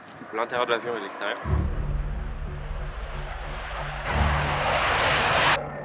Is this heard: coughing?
no